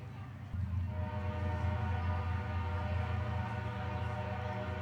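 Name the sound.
train passing by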